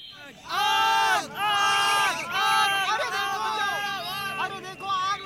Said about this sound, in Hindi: जब उन्होंने वन की ओर से उठता ऐसा प्रलयकारी धुआं देखा तो सारे गांव में आतंक मच गया। चारों ओर से चीख पुकार सुनाई देने लगी।